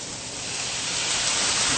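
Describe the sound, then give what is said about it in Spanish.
A steady, loud hiss of water sizzling and steaming as a little water is added to a hot pan of vegetables such as carrot and broccoli to steam them, building slightly over the couple of seconds with no one talking. “Ahora, a mí me gustan mis verduritas en este plato un poquito más cocinadas, entonces yo les voy a agregar un poquito de agua para que las verduras se cocinen al vapor un poco.”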